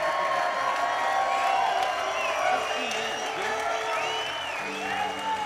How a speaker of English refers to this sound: I'm glad you gave them a hand. They need it.